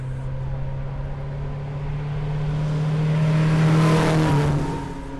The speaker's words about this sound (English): As I watched the cars cough and clatter by, most of them covering the distance in between 35 and 50 seconds